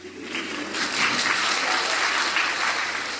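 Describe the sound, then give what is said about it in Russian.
An audience claps steadily for a few seconds, a dense, even patter of many hands that swells slightly after the start and holds at a fairly loud level. “Где аплодисменты?”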